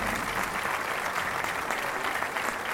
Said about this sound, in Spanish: En primer lugar, yo quiero pedir un fortísimo aplauso para Antoine, que no puede estar por primera vez con nosotros en un Carlos V. Va por ti.